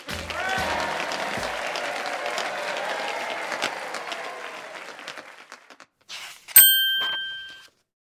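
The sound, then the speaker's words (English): Dense, steady hand clapping during a dance fills the first five seconds, then fades out; after a short pause, a single bright bell ding rings and decays. “My hands are clapping, says Robin.”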